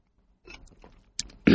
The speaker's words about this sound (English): I'm going to have a little water, if you don't mind. Let me just have a little water.